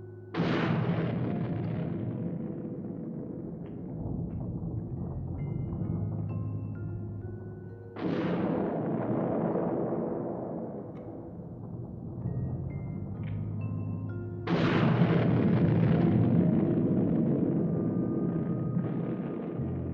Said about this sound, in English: More surface explosions?